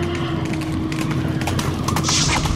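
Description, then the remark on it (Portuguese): Horses galloping some way off, a steady drumming of hoofbeats over a low rumbling background, fairly continuous and moderately loud, with no voices. “Não está ouvindo ao longe um galope de cavalos?”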